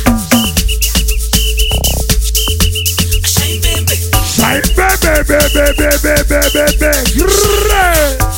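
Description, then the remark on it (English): Loud, bass-heavy dance music with a whistle blown in short, shrill bursts that repeat in rhythm over the beat, cutting through the mix. “Bring out your whistle one time.”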